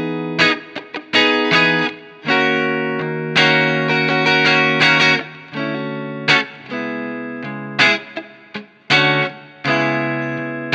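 An overdriven electric guitar through a Marshall Plexi amplifier, plugged into the lower-sensitivity input with controls set at 12, plays sustained chords and short riffs with a darker, muffled tone from the guitar's rolled-down tone knob, loud, with no voices.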